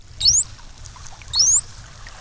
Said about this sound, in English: You're listening to the dolphin equivalent of a name like Bob, Steve, or Jennifer. Or if it's a celebrity dolphin's baby, Apple, Suri, or Shiloh.